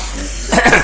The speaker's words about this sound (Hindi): हाँ खांस लो पहले।